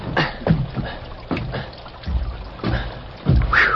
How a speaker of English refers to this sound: Rockville's main road had been turned into a sea of mud that sucked and pulled at Tom Randall's feet as he made his way